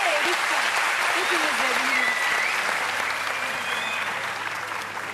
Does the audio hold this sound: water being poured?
no